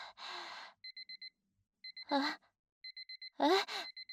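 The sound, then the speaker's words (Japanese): An electronic timer alarm beeps in quick bursts of four, repeating steadily, while a voice lets out breathy gasps and sighs between the bursts. “もう時間？嘘、やば。ごめんなさいお兄さん、夢中になってタイマー見るの忘れてて。”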